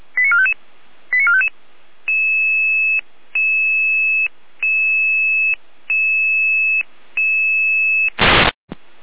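A Red Cross dispatch pager alert in Saalfeld sounds: two quick bursts of rising electronic chirps, then five long, steady beeps separated by short pauses, ending with a sharp crackle of static.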